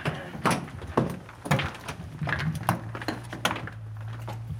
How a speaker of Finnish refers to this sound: Säppi. Mä laitan oven kiinni.